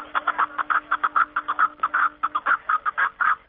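A Himalayan snowcock calls in a rapid, steady series of short clucking notes, about five per second, clear with no other sounds around.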